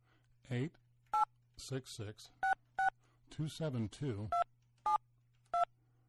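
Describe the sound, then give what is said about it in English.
Short electronic keypad beeps from a phone dialing the National Archives in Washington, about half a dozen spaced unevenly, with bursts of voice between them over a steady low hum. “Boy, the phones are... Is it us? Is everything in Washington sort of screwed up now?”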